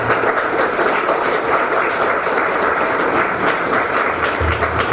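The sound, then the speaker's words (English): An audience claps steadily for the celebrants after a lecture, a dense wash of many hands with no pauses, loud and even throughout, with no voices standing out. “We'd like to give another hand of applause to the celebrants, please.”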